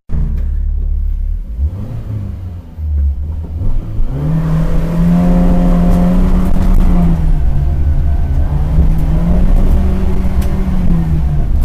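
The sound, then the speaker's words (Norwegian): Loud, steady engine noise from inside a car driving on a track at about 120, a deep low rumble that climbs in pitch as the engine revs up and then holds a sustained high whine, with no talking. “Så skal vi prøve å så får dere høre hvordan det er å være inne i en bil.”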